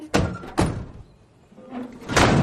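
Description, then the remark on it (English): Two solid car doors thud shut in quick succession as two people get into the front seats, followed by a softer rustling shuffle as someone settles in. No one speaks. “They get in and shut the doors.”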